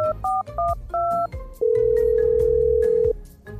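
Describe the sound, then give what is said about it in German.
A few quick keypad dialing beeps as someone calls a mobile phone, followed by a single long, steady phone ringing tone, loud, with no one speaking. “Ich glaube, ich ruf mein Handy an.”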